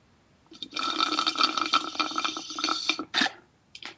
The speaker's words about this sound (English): Oh, I thought that was a bong. yeah, that was a drink. Not alcoholic.